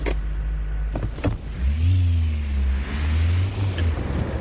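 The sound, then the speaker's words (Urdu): A turbocharged car engine, a Volvo Drive-E whose engine has three turbochargers giving 450 horsepower, revs up. Its low drone climbs in pitch and then holds a steady, throaty hum, with a couple of sharp mechanical clicks near the start. “Volvo drive ای نامی کار میں ایسے تین تین ٹربو چارجر ہیں اور اس کے انجن کو 450 ہارس پاور کی طاقت دیتے ہیں.”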